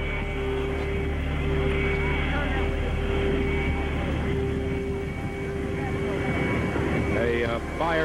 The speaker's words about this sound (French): Et le long du bâtiment, très lentement, Air Force One s'immobilise.